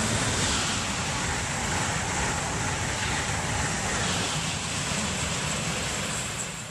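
A high-speed test train roars past a train station near Trenton, New Jersey, at night: a loud, steady rushing whoosh with heavy wind buffeting that holds for several seconds before easing slightly at the end. No one speaks.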